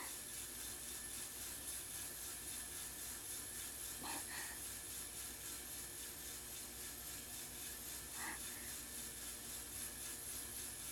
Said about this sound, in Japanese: お豆がいられて、ゆすられる音、シャッシャッって、規則正しくて、なんだかちょっと、蒸気機関車のドラフト音とも出ますね。